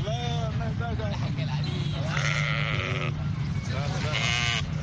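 Hundreds of sheep bleat over and over at a livestock market along main roads in and out of Khartoum, Sudan, as families prepare for the Eid al-Adha feast; loud overlapping cries rise above a constant low rumble of traffic and murmuring crowd noise.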